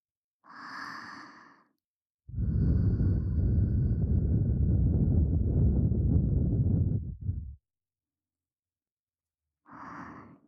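Breath is suddenly blown right into the ear as a playful prank, in a long, loud, airy rush lasting about five seconds, framed by a soft short breath before and another after. No one speaks.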